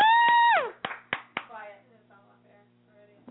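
A falling, buzzy electronic tone is followed by three sharp, evenly spaced hand claps that fade into a faint tonal tail, with no voices.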